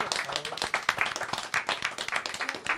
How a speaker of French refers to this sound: Je crois que ça peut s'applaudir.